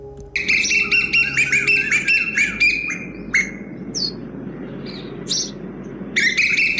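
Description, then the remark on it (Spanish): Birdsong with busy, rapid chirps and whistled phrases filling the first few seconds, then brief bursts, over a steady low rumble of background noise; no voices. “Bueno, no sé qué piensa cada uno, pero en el canto de las aves hay sonidos claramente distinguibles que siguen un cierto orden e incluso algunos patrones que son bien evidentes, tal como en una obra musical.”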